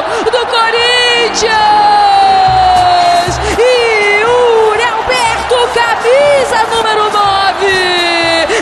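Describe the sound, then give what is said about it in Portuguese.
A huge crowd of Cruz-Maltino (Vasco) football supporters at the Maracanã stadium roars and sings together, a loud, continuous wall of chanting voices with rising whoops and cheers swelling through it from start to finish. “O torcedor Cruz Maltino canta alto, empurra, tá na expectativa, tá no nervosismo, quer tirar o grito de campeão da garganta.”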